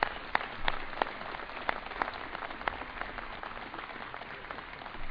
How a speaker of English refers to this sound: So another applause, if you would, for them.